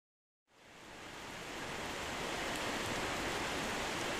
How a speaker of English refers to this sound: With the sound of the rain on the back porch in the background.